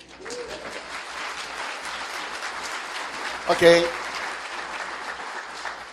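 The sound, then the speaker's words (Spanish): An audience claps steadily for several seconds, a dense crackling wash of many hands that swells briefly near the end, with a single voice speaking a word over it. “¿No hay aplauso?”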